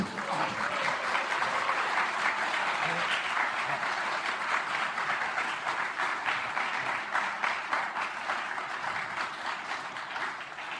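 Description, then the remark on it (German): Sustained applause from an audience at the Big Brother Awards 2005, as the award in the Lifetime category goes to Federal Interior Minister Otto Schily; a dense steady wash of many hands clapping at an even, fairly loud level for around ten seconds, with no talking over it. “Der Applaus ist wohlverdient.”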